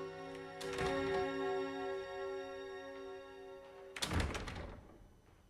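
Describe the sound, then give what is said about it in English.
A line of servants opens several doors along a corridor almost together. First a soft cluster of clunks, then a louder, fuller thud a few seconds later, all over a steady sustained musical drone. “A photographer snaps several shots of Worthing, and then a line of servants open all the doors along a corridor at the same time.”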